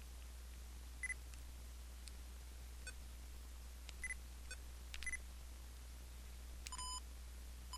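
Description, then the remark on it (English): A handful of short, quiet electronic button beeps from a voice recorder sound at irregular intervals as its menu is used to switch from conference mode to dictation mode, with a few clustered close together near the end, over a low steady hum and no talking. “But listen to the beeps, and you'll figure out, I believe, what is happening.”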